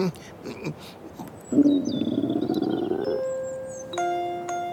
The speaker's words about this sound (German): kam aus dem Wald ein lautes Knurren. Nee, das kommt nicht aus dem Wald, sondern aus meinem Magen.